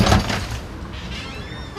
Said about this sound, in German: Beim Öffnen der Ladentür scheppert die Glocke laut und eindringlich. Ein kleiner, unscheinbarer Laden, nicht größer als ein Wohnzimmer.